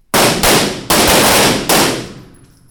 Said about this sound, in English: I dropped in at the Oakland Police Academy in Auburn Hills, where recruits were in the middle of shooting drills. On this particular course of fire, they have to hit the silhouette who has a gun in his hand